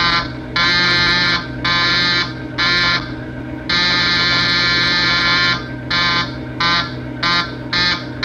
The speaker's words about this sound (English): And the guy that is working the counter there, he comes out and he just starts pressing the button over and over again to buzz his boss and buzz, buzz.